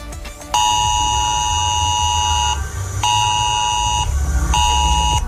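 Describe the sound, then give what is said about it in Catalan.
A harsh, buzzing mobile phone emergency alert tone blares loudly in repeated bursts: one long blast, a brief gap, a shorter one, then another starting, over a low background rumble; a civil protection test alert sent to phones in the Barcelona metropolitan area. “5 milions de telèfons rebran entre les 10 del matí i la 1 del migdia un so d'alarma i un avís a la pantalla en què s'informa del simulacre.”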